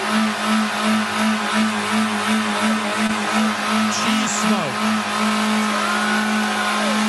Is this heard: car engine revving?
yes